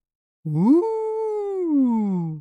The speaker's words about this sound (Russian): Раздался страшный вой, но через секунду все стихло.